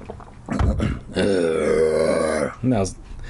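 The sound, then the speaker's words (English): A person imitates a monster's deep growl: a short gruff grunt, then a long sustained rumbling growl lasting over a second, ending with a brief final grunt. “He glared at me, then he let out a deep growl. I'm gonna drink some water, then try to growl.”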